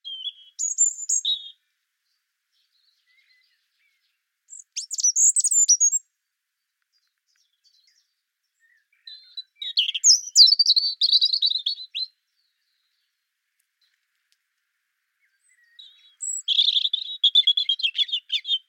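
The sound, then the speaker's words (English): A European robin sings four short, high, liquid phrases about two seconds each, separated by pauses of silence, with trickling, warbling notes at moderate volume and no talking. “But there's something fluid and watery about the robin. It trickles and it bubbles and it gurgles.”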